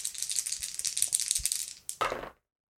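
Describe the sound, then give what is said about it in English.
Three dice, one action die and two challenge dice, are rolled for a strike in a tabletop role-playing game: they rattle and clatter briskly for about two seconds, a dense run of small clicks and taps, ending in a final louder tumble before sudden silence. No voices. “6 on the action die, a 4 and a 10 on the challenge dice.”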